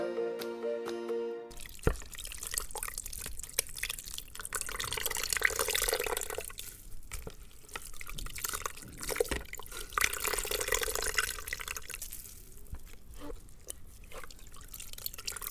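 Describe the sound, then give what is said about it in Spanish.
Liquid drips and trickles steadily from a draining leg, a wet, splashy patter with irregular drops falling into more liquid, preceded by a brief musical tone at the very start. “¿Qué es el drenaje de la pierna, no?”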